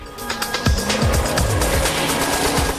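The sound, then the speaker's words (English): A brown car's engine comes to life and the car drives off up a track, a steady rumbling roar with rising and falling revs and scattered crackling bursts, loud and continuous, with no voices. “The brown car starts up it again.”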